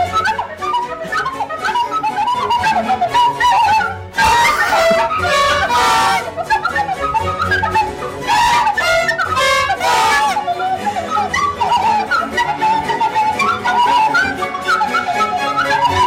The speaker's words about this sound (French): On vous sait mélomane, alors on ne résiste pas à l'envie, de vous faire découvrir la chaîne Shitty Flute. C'est une merveille trachant des classiques à la flûte et au kazoo. Saurez-vous reconnaître l'œuvre originale? Écoutez.